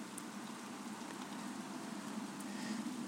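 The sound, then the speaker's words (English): Steady rain falls outside at night near the Channel Tunnel, a soft continuous hiss with faint scattered patter, fairly quiet and even throughout, with no voices. “The rain's kind of coming in.”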